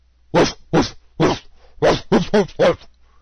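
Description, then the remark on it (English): A person imitates a dog barking the way English-speaking people mimic a dog, with seven short, loud voiced woofs: three evenly spaced barks, then a quicker run of four. “And following the name, I'll make the sound that English-speaking people would make in order to mimic what those animals sound like. The first one is a dog.”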